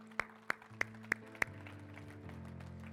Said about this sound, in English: And the congregation of believers can clap for that one in Jesus' name.